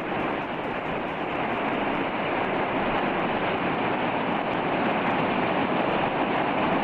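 A waterfall in Iceland roars in a steady, unbroken rush of falling water, dense and loud throughout with no pauses or voices.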